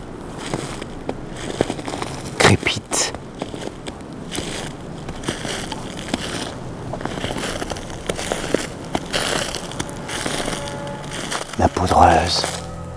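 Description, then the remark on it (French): Irregular crunching of powder snow mixed with a carpet of dry dead leaves underfoot, in cold weather, sheltered from the wind. A steady series of crisp crackling crushes lasts throughout, with a few louder bursts toward the end. “mélangée au tapis de feuilles mortes.”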